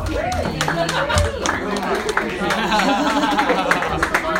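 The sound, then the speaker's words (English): Audience applause for the host rings out as a steady patter of many hands clapping, with crowd voices and a few whoops mixed in, loud, lasting throughout. “Big round of applause for our host,”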